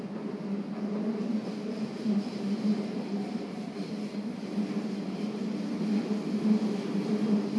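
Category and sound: vehicle, subway train running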